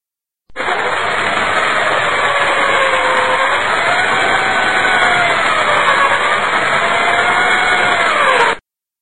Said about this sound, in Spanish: Un taladro.